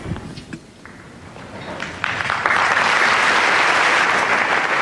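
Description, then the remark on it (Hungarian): Applause from a large crowd greeting Pope Francis after his blessing builds from scattered clapping into a loud, sustained wave of cheering and clapping that fills the space. “A mai napon is taps viharral köszöntik a Ferenc pápát, és köszönik meg az ő áldását.”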